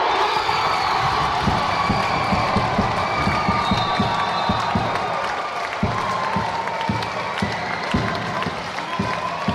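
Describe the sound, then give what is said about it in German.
The VC Kanti women's volleyball team and crowd cheer loudly after a five-set Swiss championship victory, won 16:14 in the deciding set, with shouts, whoops and clapping forming a dense, steady roar that holds for nearly ten seconds. “In 5 Sätzen haben sie gekämpft und alles gegeben und schlussendlich haben sie dürfen jubeln.”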